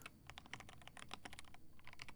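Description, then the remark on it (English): Rapid, steady typing on a computer keyboard, a dense run of crisp clicks and clacks, continuing without pause and with no one speaking. “All you need to focus on is my voice. The sound of my keyboard.”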